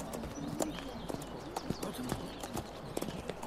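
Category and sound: animal, horse hooves clip-clopping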